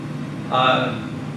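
A window air conditioner hums steadily at low pitch, with a brief brighter, whining burst rising over it midway before it settles back to the constant drone.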